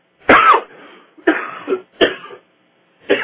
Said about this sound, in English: Excuse me, someone gets to talking too much, and then sometimes start coughing.